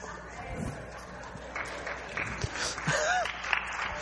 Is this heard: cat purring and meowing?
no